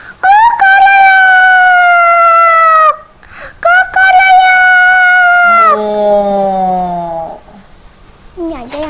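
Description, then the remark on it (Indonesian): A voice imitates a rooster crowing to wake the sleeping farm animals: two long, loud, steady high-pitched calls with a brief gap between them, followed by a lower, sliding call that trails off. “Aku harus minta bantuan ayam untuk membangunkannya.”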